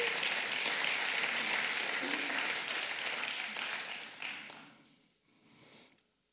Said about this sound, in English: I don't know about you, but this one is worth giving Jesus a round of applause for. It's worth thanking him for it.